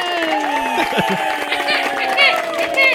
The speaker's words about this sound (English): I'm trying to look for the applause button. I can't find it. Oh, there it is.